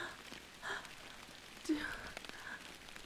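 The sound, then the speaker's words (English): Steady rain patters softly outside a cave during a thunderstorm, a diffuse hiss of drops with a couple of faint breathy swells rising briefly above it. “Do you want to keep me here in your cave while it rains outside?”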